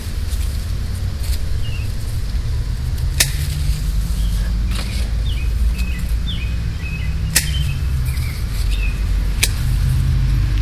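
Cars pass in front of a house with a low engine rumble that swells and fades over several seconds, set against steady outdoor noise, sharp snipping clicks from a bush being pruned, and faint birds chirping.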